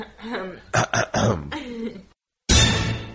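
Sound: throat clearing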